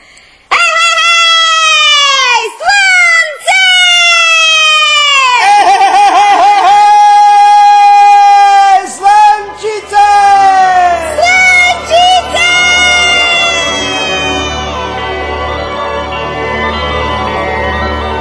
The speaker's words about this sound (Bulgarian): Запуши се ушите, Бирк. Сега ще чуеш моя пролетен вик.